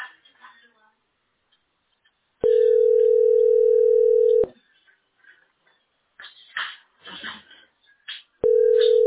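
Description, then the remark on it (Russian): A telephone line sounds a loud, steady beep lasting about two seconds, followed by a stretch of muffled voices announcing "your position" with no position number, then the same flat tone starts again at the end. “Там еще типа гудки-гудки, потом ваша позиция, и дальше гудки.”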